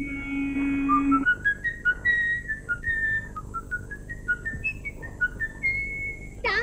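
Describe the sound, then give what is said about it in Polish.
A man whistles his favourite lilting melody alone while buying a balloon from a blind seller, clear, each note sliding between pitches in a steady tune with short breaths between phrases. “Na swoje nieszczęście gwiżdże przy tym ulubioną melodię, za sprawą której zostanie później rozpoznany.”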